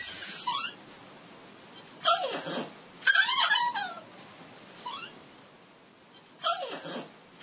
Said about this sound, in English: Not to be outdone, my other dog was clearly dreaming too.